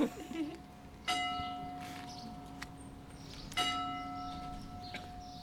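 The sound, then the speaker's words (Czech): A church bell tolls the hour with two slow, resonant strikes about two and a half seconds apart, each ringing out and decaying over a low background rumble. “Ještě ne, počkáme. Je celá hodina.”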